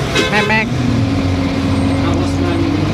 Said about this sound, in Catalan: això és l'autobús, sí.